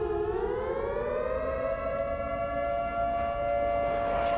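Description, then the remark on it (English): A loud wailing siren, heard from a park in the city on a fine day, rises steadily in pitch and then holds a long sustained tone, droning continuously with a rich harmonic whine and no voices. “What's with all these sirens?”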